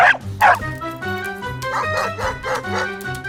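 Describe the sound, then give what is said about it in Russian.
A small dog named Kusachka barks and yips in a quick, excited series of sharp bursts, two early ones and then a rapid run, over a faint steady tonal background, as it rushes after someone and the rope tied to its collar pulls taut. “Трос, привязанный к ошейнику собаки, натянулся.”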